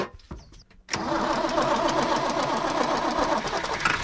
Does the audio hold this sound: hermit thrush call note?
no